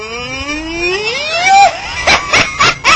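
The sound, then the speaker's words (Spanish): A toy cow named Adjunta lets out a mechanical moo, a buzzy tone sliding upward for over a second, followed by four quick rhythmic bursts, loud, with no talking. “Tiene como voz de toro.”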